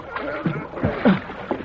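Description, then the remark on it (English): Oars dip and splash through water in a steady rowing rhythm as a boat is rowed around to pick up survivors, several strokes with gurgling swirls between them, over a low background murmur. “I've been rowing around trying to pick up survivors.”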